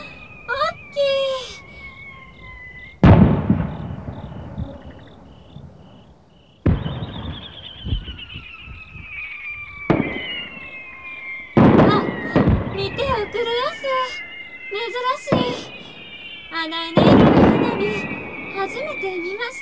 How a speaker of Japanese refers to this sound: 今度は向こうでも上がりましたえ。連発花火。